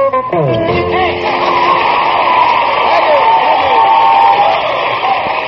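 A sellout live audience at the Grand Ole Opry applauds and cheers in a steady, loud roar that holds for several seconds, with a few sharp whistles rising out of the noise near the start.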